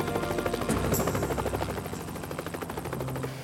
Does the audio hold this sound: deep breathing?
no